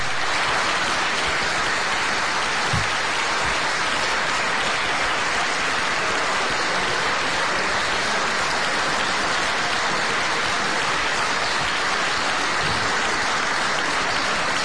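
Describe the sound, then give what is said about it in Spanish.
Sustained applause for Elena Candia of the Partido Popular as she receives the medal and baton of command as new president of the Diputación de Lugo: dense, steady clapping from a crowd that holds an even, fairly loud level for the whole stretch, with no voices rising above it. “Los aplausos para la nueva presidenta.”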